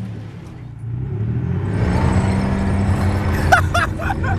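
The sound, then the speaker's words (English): A tank's big Rolls-Royce V8 engine rumbles low and loud, building in power as the vehicle starts moving off, with a few sharp metallic squeals near the end. “That's the start of a big Rolls-Royce V8. Tank takeoff. We're moving.”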